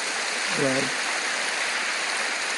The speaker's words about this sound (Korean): 오늘 특별히 귀한 손님들이 오늘 우리 예배에 참석하셨는데 에즈베리 신학교의 박사과정에 계시는 미국 목사님들 또 해외에 흩어져 있는 외국 목사님들이 공부하시는 가운데 우리 교회에 함께 탐방하며 예배에 참여해 주셨습니다. 일어나 주실까요? Would you please stand up? Yes. 여러분 교회 박수로 환영하시지요?